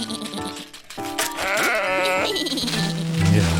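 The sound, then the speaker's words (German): A sheep bleats loudly, a long wavering baa followed by shorter quavering bleats, set against a busy cartoon-style soundtrack from an English clay-animation series, with no one talking. “Die Sounds, die wir hier hören, die sind fantastisch und die bleiben das auch.”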